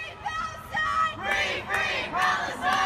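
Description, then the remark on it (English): A crowd of protesters shouts at people in loud, rising bursts, several voices yelling together in repeated waves over a constant background roar, like chanting at a protest. “And there are these morons shouting at people.”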